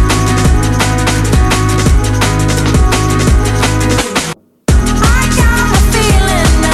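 A driving rock song plays loud and full, with a steady pounding beat and dense guitars, cutting out abruptly for a brief moment before the music slams back in.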